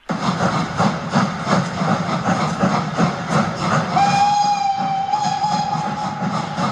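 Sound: steam locomotive running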